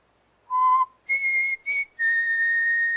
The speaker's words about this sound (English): I just whistled. That's all.